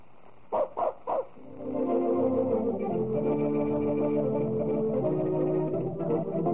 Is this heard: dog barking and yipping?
yes